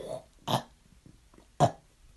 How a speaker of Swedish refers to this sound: Jag kan rapa.